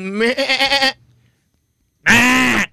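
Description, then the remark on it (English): A person imitates a goat's bleat in a contest for the best goat impression, in two bursts: a wavering, stuttering bleat, a pause of silence, then a louder, strained, nasal bleat. “Who's got the best goat impression?”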